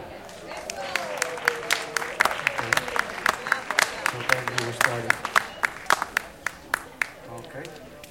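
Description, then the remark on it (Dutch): An audience in Vondelpark, Amsterdam gives a performer a thunderous round of applause, with dense, overlapping claps that gradually thin into scattered individual claps, while voices talk and call out over the crowd. “ik zou zeggen een daverend applaus”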